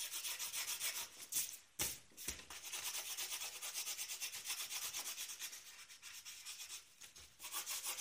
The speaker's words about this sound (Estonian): Praegu on väga palju pliiatsi sahistamist.